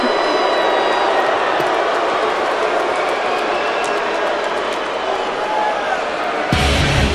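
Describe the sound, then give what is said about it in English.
A loud, sustained roar from a packed WWE wrestling arena crowd in Chicago as Roman Reigns appears, a dense wall of voices with boos that holds steady throughout, with a sudden shift in tone near the end. “Listen to that raucous ovation for Roman Reigns.”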